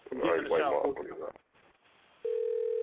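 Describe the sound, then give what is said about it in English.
A man talks briefly, then after a short pause a steady electronic ringback tone begins as he calls a friend. It is the start of a phone ringing on an outgoing call, clear and continuous. “Well, maybe he's not gonna answer the phone because he's pussy.”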